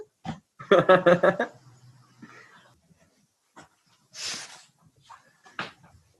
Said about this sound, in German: Ich muss jetzt unbedingt Nase putzen. Ich versuche es zurückzuhalten.